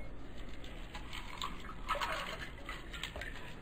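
Water poured into a glass to drink, a soft steady splashing trickle with a faint clink partway through, fairly quiet and with no one speaking.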